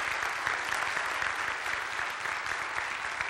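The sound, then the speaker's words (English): A crowd at a church service applauds steadily for a woman who serves in the children's church ministry, many hands clapping together in a dense, sustained wash of sound without any voices over it. “Let's just give her a round of applause.”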